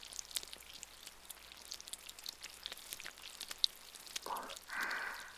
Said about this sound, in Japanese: いいよ、雨の音できっと誰かが近くにいてもわかんないから。